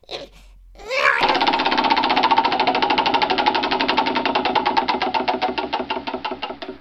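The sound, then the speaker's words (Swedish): A contestant spins a prize wheel, which whirs into motion with a rapid stream of sharp ratcheting clicks that gradually slow and spread out as it loses speed, with no talking over it. “Ja, nu får du lugna dig och snurra hjulet nu.”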